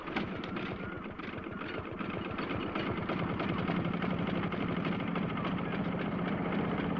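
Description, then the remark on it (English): A boat engine rumbles steadily with a low, throbbing pulse, loud, holding a constant running drone throughout with no voices. “Come on, get the boat moving. Let's get out of here.”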